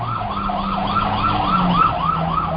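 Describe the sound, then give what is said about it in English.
A fire truck just around the corner sounds its siren in a fast, repeating yelp, loud, with a low engine rumble running steadily underneath and no voices. “It's a fire truck. They're just around the corner.”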